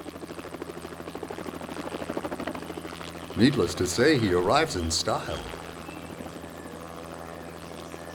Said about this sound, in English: After his bags are unloaded, the helicopter lifts into the air and sails off into the sunset.